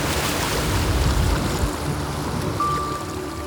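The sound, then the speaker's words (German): Loud, steady rush of water gushing out from under a turbine house, a dense roaring wash without pause, with a faint thin tone appearing briefly near the end. “Manchmal, da sprudelt es unter dem Turbinenhaus hervor. So laut, dass man sein eigenes Wort nicht versteht.”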